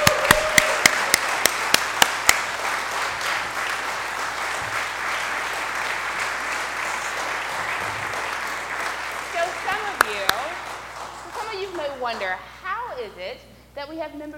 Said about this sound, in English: And a round of applause.